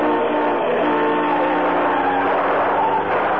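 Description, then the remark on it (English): A car engine roars steadily, a dense, continuous rush of motor and road noise with no voices, holding level throughout as the car speeds along and swerves in front of another car to make it pull over. “Swing in front of that car and make it pull over to the other side, away from that man.”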